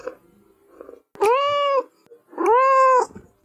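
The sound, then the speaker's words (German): A kitten gives two drawn-out, high-pitched meows, each about half a second long with a rising-then-falling tone, separated by a short pause over faint background noise. “Drittens, Babykätzchen.”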